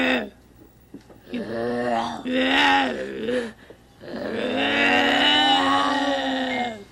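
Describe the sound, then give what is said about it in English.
Voices mimic bears growling, two people practicing growls while pretending to be a mama bear and a baby bear: three drawn-out, throaty groaning growls with short pauses between them, the final one the longest and loudest. “I thought I heard some bears growling over here.”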